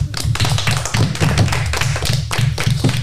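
Three school teams about to compete at the school in Crécy-sur-Loire applaud with steady, dense clapping that stays at an even loudness for about three seconds, the sharp claps overlapping into a continuous patter over a low rumble. No one speaks.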